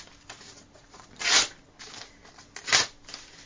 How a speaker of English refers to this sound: And he took the king's letter out of his pocket and started to tear it up into little tiny pieces.